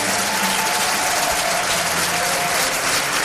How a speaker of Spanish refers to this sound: La primera reaparición en público de Antonio Resines ha sido para recibir la medalla de oro al mérito de las Bellas Artes de la mano de los Reyes. Ha sido recibido además con una gran ovación.